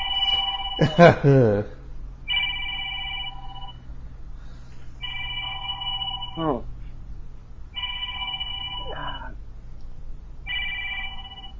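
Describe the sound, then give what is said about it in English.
The speaker's telephone rings repeatedly in steady, evenly spaced bursts of bright electronic trilling, about four rings in all, with a brief voice sounding early on and a low steady hum underneath. “Then you get in the middle of something, and the telephone starts ringing.”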